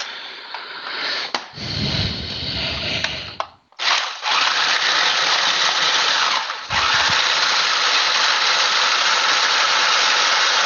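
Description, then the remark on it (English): A lidded food processor grinds vanilla wafers into crumbs with a loud, steady motor whir and gritty churning, dipping briefly a few times before roaring on without pause. No one speaks. “Put the lid on the food processor here.”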